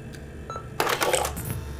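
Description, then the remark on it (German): A sharp mechanical click as the Play button is pressed on a video camera connected to a television, then a brief whirring clatter of its small tape mechanism engaging, fairly loud, fading after about half a second over a low steady hum. “schaltete neugierig den Fernseher an und drückte bei der Videokamera auf die Taste Play.”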